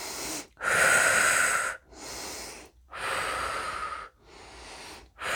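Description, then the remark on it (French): Several slow, deep breaths drawn in and let out during the return phase at the end of a sophrology session, each a long airy rush separated by brief silences, with no talking. “Dès sophronisation, nous prenons quelques grandes inspirations.”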